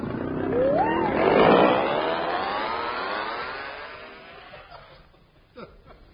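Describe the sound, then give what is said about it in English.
An outboard motor revs up sharply, its whining pitch climbing into a loud, buzzing drone that slowly recedes and fades over several seconds, ending with a couple of faint knocks. “Come now, hold this outboard motor.”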